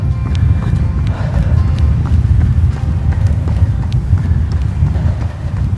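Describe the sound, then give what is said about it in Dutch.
Steady, rhythmic footfalls of someone jogging at an even, easy pace, slightly slower than normal, to recover after a hard stretch of interval training, over a constant low rumble of wind or background noise. “Na zo'n hard stukje ga ik gelijk weer rustig lopen.”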